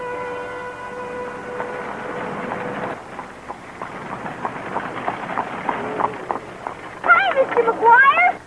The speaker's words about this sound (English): That's not his horse. That's my horse.